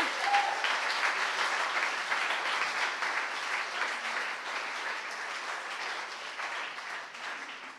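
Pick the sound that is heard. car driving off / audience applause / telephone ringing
audience applause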